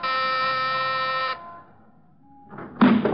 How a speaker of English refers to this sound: Ring the bell. If Jerome's in there, he'll probably answer.